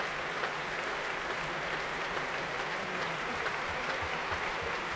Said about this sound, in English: The St. Louis Symphony warmly applauding Christian as he comes back to take off his sixth or seventh, I've lost count, bow here at the Royal Albert Hall.